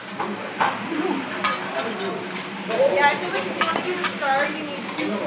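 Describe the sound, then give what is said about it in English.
A pinch of soy sauce sizzles and crackles steadily in a hot frying pan with rice and teriyaki sauce, with a spatula stirring and scraping against the pan and occasional sharp pops over the hiss. “I'm gonna add some soy sauce. Just a pinch.”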